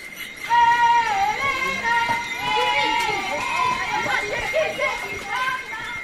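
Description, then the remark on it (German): A chorus of unseen howler monkeys screams and howls in long, wavering, overlapping calls that rise and fall in pitch, continuous and fairly loud throughout, heard on a forest trail to a former cocoa plantation. “Uns begleitet das Geschrei der Brüllaffen, aber wir sehen keine.”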